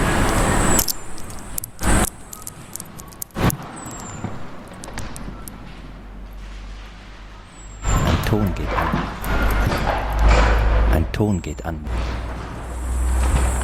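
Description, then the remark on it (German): A car passes by, its broad rushing hum swelling in the second half. Sharp clattering knocks, indistinct voices and a few high chirps are heard around it. “Wieder ein Auto.”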